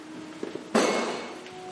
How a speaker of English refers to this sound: Water bottle casualty. It's okay.